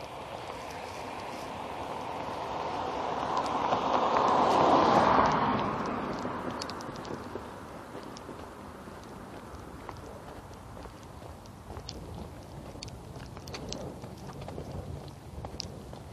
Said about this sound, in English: Yeah, it looks like the storm is pulling away. The movement of the cloud shield up above me seems to be. Sliding up slope and not drifting out onto the plains, which is would be indicative of it moving away, so good.